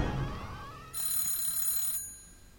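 A short, rising swoosh gives way to about a second of shrill, high-pitched alarm clock ringing, steady and fairly loud, then it cuts off abruptly.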